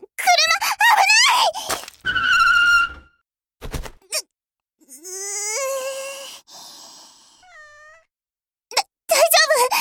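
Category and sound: animal, kitten meowing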